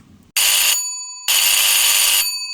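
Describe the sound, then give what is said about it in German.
A telephone with a handset rings loudly at work in two bursts, a short one and then a longer one, each a bright, shrill electronic trill with a brief gap between them. No one speaks. “Viel zu laut meldet sich mein Telefon.”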